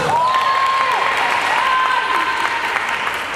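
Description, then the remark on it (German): Several dozen women spectators at a women's football match in Oman cheer and applaud continuously, a dense wash of clapping and voices, with a few shrill, high whistle-like calls rising and falling over the steady roar. “Auf den Zuschauerrängen fiebern einige Dutzend Frauen mit.”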